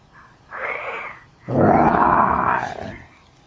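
A voice imitates a lion's roar: a short growl, then a longer, louder throaty roar that swells and fades out.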